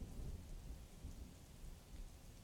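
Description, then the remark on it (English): Steady rain pours outside with a deep, continuous rumble of thunder rolling underneath, a dense wash of noise with no voices. “It'll warm you up after being out in the rain.”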